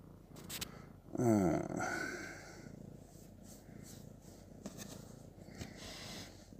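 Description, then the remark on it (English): A cat purrs in a steady, low rumble, with a brief rising chirp-like vocal sound early on before the purring settles into a soft, continuous drone. “I know what it is. It's not really a cat. It's a titty Tyrannosaurus.”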